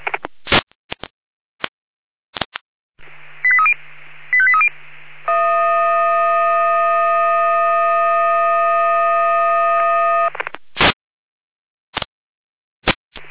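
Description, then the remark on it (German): Radio dispatch alert tones from the Jena dispatch centre, a second alarm to the Bürgel fire brigade for a building fire: a few short tone bursts, then a long steady multi-pitched electronic tone lasting about five seconds, framed by sharp radio clicks and a low hum. “Hier Leitstelle Jena mit zweiter Alarmierung Florian Bürgel.”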